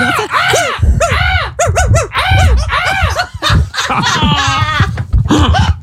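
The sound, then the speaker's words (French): A voice imitates a dog chasing a crow, with rapid, loud yelping barks and squawking caw-like cries tumbling over one another, plus a few laughing bursts. “Est-ce qu'on peut faire le chien qui court après le corbeau?”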